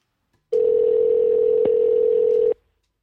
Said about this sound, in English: Now that the phone's ringing, I'm like, what can I say to my parents? I don't know. This might not be so good. It is Sunday morning. Maybe nobody's awake.